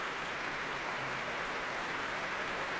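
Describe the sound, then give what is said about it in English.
Sustained applause from a really full Royal Albert Hall audience as 11 players headed by Michael Barenboim come on stage again after a performance, a dense, steady wash of many hands clapping at once with no pauses, fairly soft overall and with no voices. “The 11 players, headed by Michael Barenboim, come on stage here again at the Royal Albert Hall to accept this warm applause from a really full Royal Albert Hall.”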